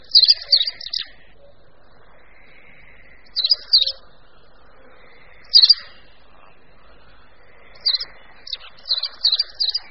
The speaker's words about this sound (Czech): Střechy domů mu vlastně připomínají původní skalní prostředí a tam konipas vesele pobíhá a prospěvuje svoji švitořivou písničku.